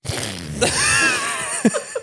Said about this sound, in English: Yeah, they're neuromancers and they would like the fart noise to be banned.